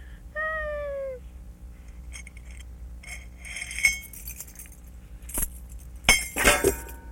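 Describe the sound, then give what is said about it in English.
A short meow opens, then quiet rustling before keys drop with a bright metallic clatter and a brief jangle, a few sharp clinks tumbling together near the end. “Keys went down.”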